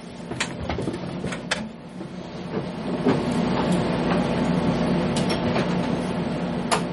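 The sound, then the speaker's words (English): Someone rattles a locked door in a building on lockdown, with a series of sharp metallic clunks and jiggles over a steady, rumbling mechanical background. No one speaks. “It's locked.”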